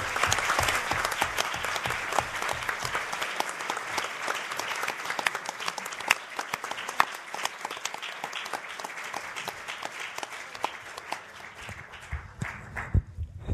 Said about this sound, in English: And I hope in thanking our speakers, you'll also give her a round of applause